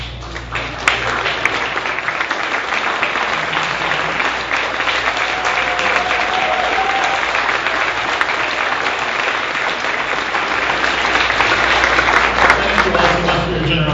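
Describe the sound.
Sustained audience applause for the event's sponsors lasts about fourteen seconds, dense and steady clapping from a large crowd, loud, with faint murmured voices beneath it.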